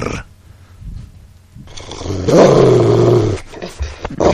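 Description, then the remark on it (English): Several voices growl together in a rough, rumbling imitation of an angry poodle, swelling to a loud sustained snarl for a couple of seconds before breaking off into scattered noises. “Sounds like an angry poodle.”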